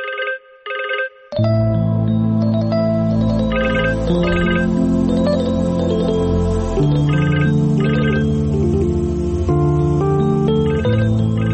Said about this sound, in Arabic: ليش بترد؟ خليه يرن. خايف ترد؟